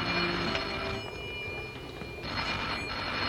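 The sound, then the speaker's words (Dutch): A telephone bell rings steadily through a noisy background, its bright metallic tone sustained across the whole moment, with no voices. “Zal ik de telefoon even aannemen, sir?”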